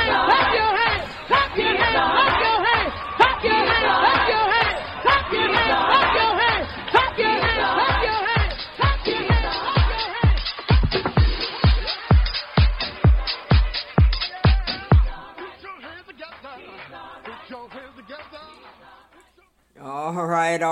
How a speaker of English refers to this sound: All right. That was a gospel house mix